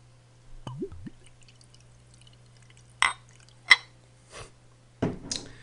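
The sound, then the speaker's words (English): Jones Turkey and Gravy Soda from a bottle glugging and splashing into a small glass in a few short, separate bursts with quiet pauses between, moderately loud, with no talking. “And pour it into a little glass here.”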